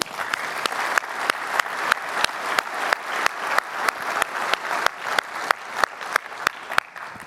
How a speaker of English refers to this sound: Folks, if you didn't realize, that was WQA's first testimony in front of Congress. That deserves an applause.